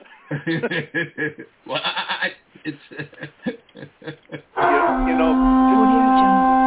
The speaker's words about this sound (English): It sounded like a sheep.